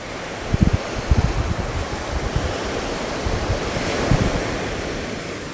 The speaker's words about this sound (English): Sea sounds very violent, doesn't it?